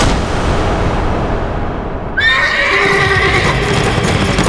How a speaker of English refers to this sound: The horse's hooves thundered against the ground beneath her. Mildred and her steed tried to keep pace with Ryan's horse.